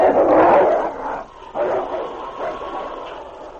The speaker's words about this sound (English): The pack closed in, but to their surprise and disappointment, the gray wolf refused to let them approach the boy lying on the ground. A chorus of angry growls arose from the pack.